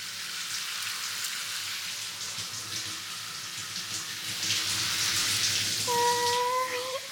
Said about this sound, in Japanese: ミルクたちと一緒にシャワシャワしましょう。